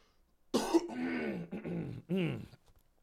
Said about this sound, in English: I had to clear my throat one more time.